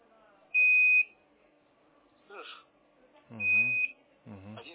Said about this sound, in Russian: Так, а какой характер пищания? Просто раз в секунду, короткий писк.